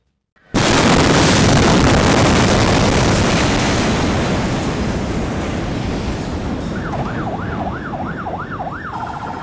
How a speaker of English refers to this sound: The 4th of August 2020, an explosion at the port of Beirut. The world's largest non-nuclear explosion was caused by the detonation of more than 2,500 tons of unsafely stored ammonium nitrate.